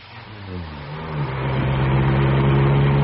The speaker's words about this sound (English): Listen. A car's outside. Quick.